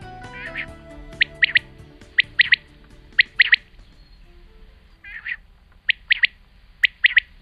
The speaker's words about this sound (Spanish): No oigo todavía la codorniz como tú, pero enseguida la empezaré a oír, sí. Sí, porque era una codorniz lo que estábamos escuchando.